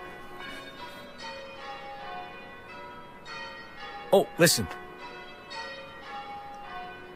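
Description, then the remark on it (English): Church bells peal continuously, ringing out the old year on New Year's Eve, their overlapping tones ringing steadily throughout, with a few brief spoken words and two sharp knocks partway through. “They started the ringing out of the old year.”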